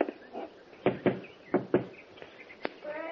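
Two pairs of sharp, hollow knocks on the door of a house, evenly spaced, with faint bird chirps in the background and no one speaking.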